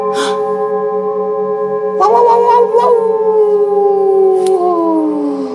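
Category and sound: animal, wolf cub howling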